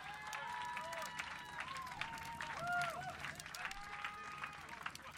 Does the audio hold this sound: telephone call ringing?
no